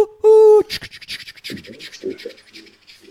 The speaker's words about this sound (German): Warte, wir hören noch den Zug wegfahren.